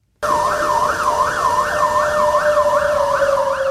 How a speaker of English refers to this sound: The air raid siren sounded at 2 p.m., signaling the start of a nationwide evacuation drill as part of the Uchi exercise.